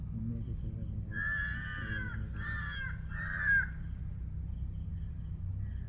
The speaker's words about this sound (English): Crows.